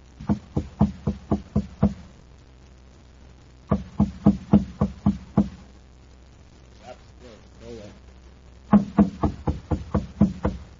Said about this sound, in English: Now, on a side street in Kepler City on the planet Mars, a thin, stoop-shouldered man climbs a stairway at the side of a shabby machine shop. He knocks at the door.